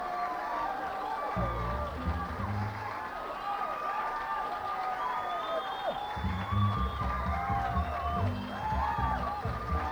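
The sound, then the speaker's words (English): A crowd applauds musician Jethro Barnes steadily for about ten seconds, a dense, continuous clatter of clapping layered with shouts, whoops and whistles, staying loud throughout with some low rumbling bursts underneath. “And give him a nice round of applause.”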